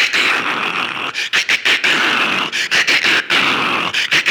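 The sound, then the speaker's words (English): A voice imitates thunder with loud, raspy, hissing rumbles, breaking into a string of short bursts and brief pauses before swelling again; no words are spoken. It is a mouth-made sound effect of lightning and thunder on a windy night, opening a spoken horror story. “With lightning and thunder.”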